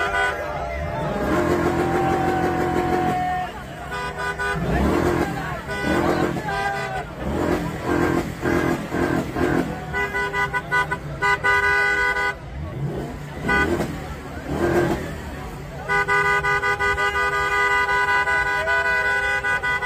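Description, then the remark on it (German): A car engine revs hard again and again while standing still, pitch surging up and falling back, loud, with steady horn-like tones blaring through parts of it. “Was man jetzt hier nicht sieht, diejenigen, die im Auto gesessen haben, also der die ganze Zeit irgendwie hier Vollgas gibt im Stand, besonders gut für den Motor, haben dann auch auf die Fahrer, auf die Insassen eingeschlagen im Fahrzeug.”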